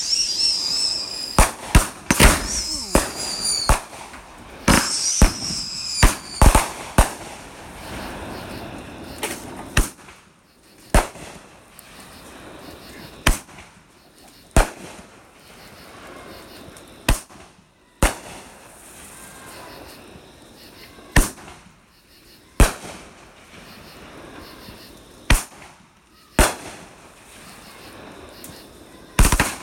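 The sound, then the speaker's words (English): Fireworks bang repeatedly at a farm in Calvary, Kentucky: a dense rapid burst of crackling blasts at first, then loud single booms spaced every few seconds, sharp, with a faint background between them. “We are at Ground Zero and the fireworks continue. Big boom. Another big boom.”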